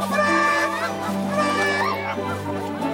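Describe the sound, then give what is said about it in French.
A loud, agitated chorus of hens clucking and squawking over one another in protest, with overlapping excited calls that rise and fall continuously for a few seconds, dense. “Entendant cela, les poules élevèrent des protestations scandalisées.”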